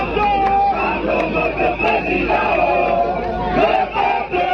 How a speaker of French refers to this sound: La foule n'a cessé de grossir devant le siège du MRC. Au fil des heures et sous un soleil de plomb, ils étaient plusieurs milliers à chanter à la gloire de leur leader.